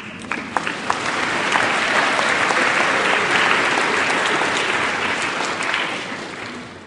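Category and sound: crowd, audience applause in church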